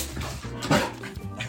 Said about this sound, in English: Those are my three dogs, Q, Nuck, and Bruno.